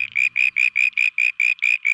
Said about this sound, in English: Now that may sound like a pretty simple solution, but changing their calls to cope with a noisy environment is actually quite extraordinary for frogs.